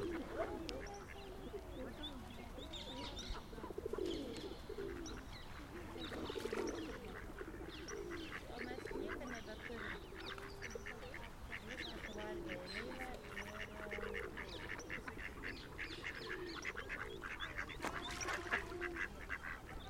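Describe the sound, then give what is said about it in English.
A duckling, a little older than the other ducklings, squeaks in rapid, high-pitched peeps that keep going throughout, mixed with a busy chorus of other waterfowl calls and quacks, with no talking. “It's really squeaky for a duckling.”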